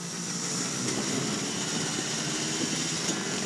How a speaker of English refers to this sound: Down and down the sloppy hill, snow blowers revving.